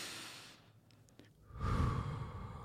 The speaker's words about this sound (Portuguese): E quando você puxa o ar, você pensa na sua cabeça. Inspira. E quando você solta, expira.